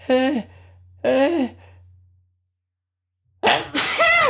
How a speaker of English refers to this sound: And I'm gonna sneeze.